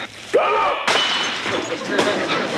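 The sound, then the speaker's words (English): Loud, exaggerated hiccups, about three harsh, booming bursts spaced unevenly, each with a crashing, thud-like force and a brief squeaky vocal rise near the start. “If those hiccups get any louder, there may not be a wedding.”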